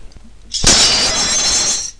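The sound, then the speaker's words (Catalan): A sudden, loud crash of window glass breaking, followed by a bright, sustained cascade of shards tinkling and scattering for over a second before it fades. “Ja m'han tornat a trencar els vidres.”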